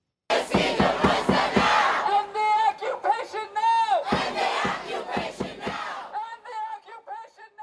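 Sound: protest crowd chanting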